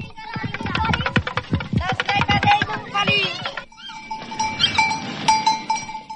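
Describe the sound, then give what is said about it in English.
Just outside a station, boys play with a toy drum rattle that clatters in quick, uneven bursts of sharp beats for a few seconds, then gives way to ringing metallic tones over a busy background murmur. “Just outside the station, some boys are playing with a toy that sounds like a drum rattle.”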